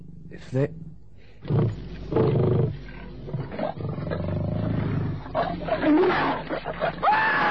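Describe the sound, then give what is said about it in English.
A lion roars and snarls, loud and rough, in several heavy bursts with growling in between, building over a few seconds. “The lion sprang, the knife went home between the ribs and into the heart of the beast.”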